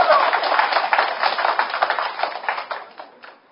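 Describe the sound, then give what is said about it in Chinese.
A burst of dense applause from an audience, many hands clapping at once in a steady wash that gradually thins and fades out toward the end. “啊，老人囡仔先都爱掌声，就是对咯。”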